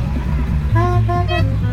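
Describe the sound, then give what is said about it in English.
A Mr. Softy ice cream truck across the street plays its jingle, a few bright, steady tones in a short melodic run, over a constant low engine and traffic rumble. “Can you hear the Mr. Softy truck across the street?”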